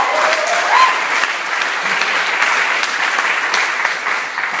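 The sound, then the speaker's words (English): Sustained audience applause, a dense, steady wash of many hands clapping at full volume, with a brief cheer-like tone early on and no speech. “Final round of applause then.”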